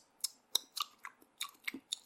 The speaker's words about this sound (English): By the way, what's with all that fucking clicking? Sounds like she's smacking her lips. All those weird fucking suction sound.